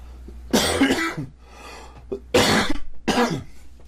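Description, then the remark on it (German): Three loud, harsh coughs from a Let's Player, the first a double burst, with short pauses between them and no talking. “Warum fängt der Let's Player und macht dann und hustet jedem erst?”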